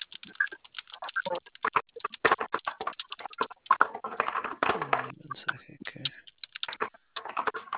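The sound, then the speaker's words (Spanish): Rapid, irregular clacking of keys on a computer keyboard, fairly loud, in uneven bursts, with a voice murmuring briefly partway through. “Mi teclado se trabó.”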